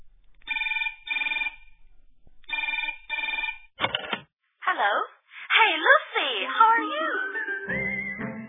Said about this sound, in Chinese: 电话已经响了半天了，你怎么还不接电话呢？